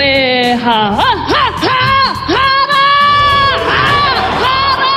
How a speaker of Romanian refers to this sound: Cel mai tânăr deputat din Noua Zeelandă, o femeie de 21 de ani, a scos un frumos strigăt de război atunci când a depus jurământul.